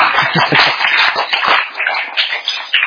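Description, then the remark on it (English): An audience applauds an assistant for about three seconds, a dense, steady wash of many hands clapping at once with no voices over it, sustained and fairly loud throughout. “A big round of applause for my assistant.”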